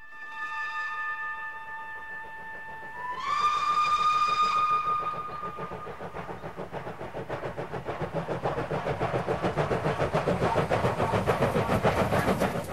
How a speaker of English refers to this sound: A steam train powers through the countryside. Some young children sit on board one of the carriages.